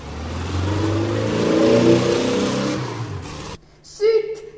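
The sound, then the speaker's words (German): A police car's engine revs loudly, its pitch climbing and wavering as two people drive it away, then cuts off abruptly, followed by a brief, higher, voice-like sound. “haben mein Auto genommen. Das kann doch wohl nicht wahr sein. Sie sind einfach ohne mich abgehauen.”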